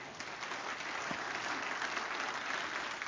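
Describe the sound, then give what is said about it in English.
An audience claps for the Lord together in a steady, dense round of applause lasting about three seconds, the many overlapping hand claps forming a bright, even wash with no talking over it. “Give the Lord a good clap on it.”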